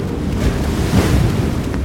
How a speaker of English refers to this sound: And all at once, the water rushed back into the cave, flooding it completely and leaving us sitting there, dripping on the hillside above it, processing what we just saw.